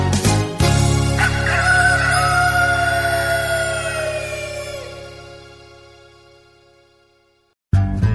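A single long rooster crow rings out over a sustained low droning tone, the call sliding downward before everything slowly fades to silence.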